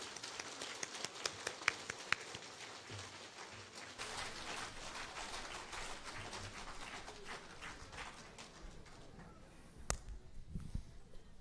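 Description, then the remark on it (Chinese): An audience applauds to welcome Lu Junhong to look at totems, in a steady, dense patter of many hands clapping at once, held for several seconds and gradually thinning toward the end, with no talking over it. “现在让我们用最热烈的掌声恭请尊敬的卢军宏台长为我们慈悲看图腾。”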